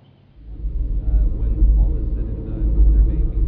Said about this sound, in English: Bloody gearbox. Why don't you buy a decent car for once? A foreign one? Less of that. This car was made by craftsmen. Real craftsmen.